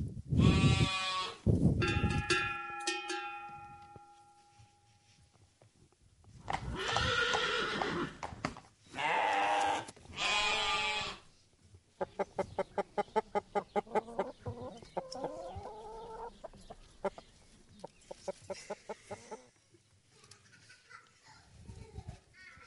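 A lively succession of farmyard animals calling one after another: loud horse whinnies, a rooster crowing, bleating sheep and goats, and a rhythmic run of clip-clopping hooves, all clear.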